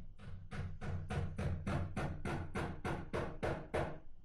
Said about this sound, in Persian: همسایه جان ساعت 2 بجه شب چکش به دست گرفته و میخ به دیوار خانه خود میکوبه. اینه گوش کنیم.